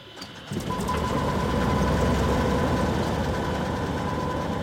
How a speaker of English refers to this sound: He starts the engine for his Cessna propeller plane and takes me on a guided tour over Pacific Lumber's 211,000 acres, shouting over the roar of the engine.